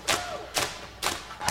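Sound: tapping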